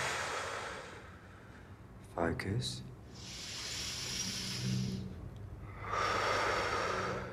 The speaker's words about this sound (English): So, we're breathing deeply in through the nose. And out through the mouth.